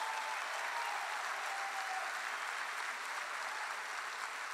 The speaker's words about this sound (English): Give the Lord a hand clap in this house.